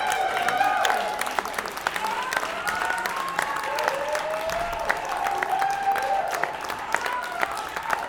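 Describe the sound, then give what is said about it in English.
A crowd applauds steadily for several seconds, dense clapping with scattered whoops and cheers rising over it, sounding like a mid-sized audience. “Round of applause”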